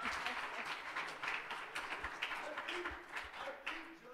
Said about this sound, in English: And I said, I didn't take time to, now go ahead and clap for her.